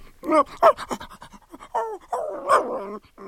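A dog pants in quick, breathy bursts over about three seconds, with a few whiny, voiced tones mixed in. No one speaks.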